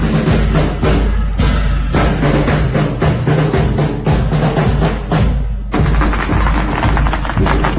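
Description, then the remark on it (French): A long string of firecrackers set off for a wedding in Zhangzhou, in front of a luxury sedan draped in red, crackles loudly and continuously, a dense, rapid barrage of sharp pops with brief surges that never lets up, with no voices heard. “c'est pas les orgues de Staline, c'est les pétards”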